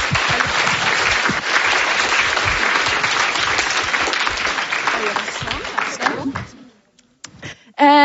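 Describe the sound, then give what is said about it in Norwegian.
Sustained audience applause for about six seconds, dense and fairly loud, then tapering off into quiet with a few scattered sounds and a voice at the end; applause closing a session before a lunch break. “Så gir vi en applaus og en avslutning.”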